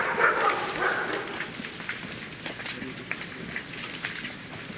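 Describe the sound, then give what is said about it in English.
A stray dog on a campus barks a few faint, scattered barks over a steady outdoor rushing background, with no one speaking. “Many dogs live around this campus.”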